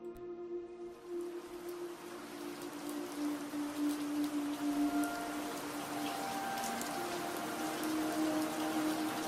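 Soft, steady rain patters on leaves and on the roof of a small house among trees, a dense hiss of drops with scattered sharper ticks, plus a faint low hum underneath. No one speaks.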